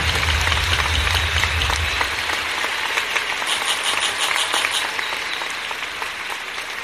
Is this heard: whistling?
no